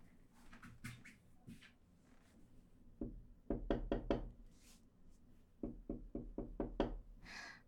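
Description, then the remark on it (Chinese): Hard wooden knocks from a chair come in two quick bursts of several hits each, fairly loud, after a few seconds of softer clattering as the chair is shifted. No voices. “啊，这个椅子。”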